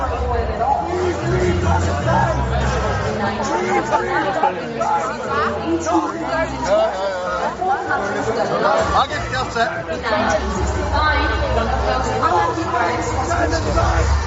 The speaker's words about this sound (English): As Israel's Noam Betan took to the stage, chants could be heard in the crowd.